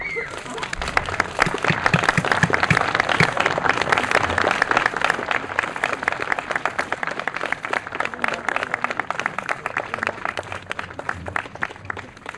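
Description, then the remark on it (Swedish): Sustained audience applause as the winner of a ploughing competition enters the stage to receive honorary prizes and diplomas, a dense wash of many hands clapping steadily for about twelve seconds at a fairly loud, even level with no speech. “Han fick dagens starkaste applåd när han äntrade scenen för att ta emot diverse hederspriser och diplom.”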